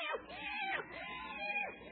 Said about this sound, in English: Hello, kitty. Hey, kitty, kitty, kitty, kitty.